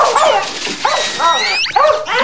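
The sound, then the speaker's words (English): A dog lets out a run of high, squeaky whines and short yelping barks, fairly loud, with rising and falling pitch and no pause between them. “Man, you've never heard a dog squeak before?”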